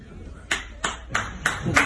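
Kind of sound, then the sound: crowd, applause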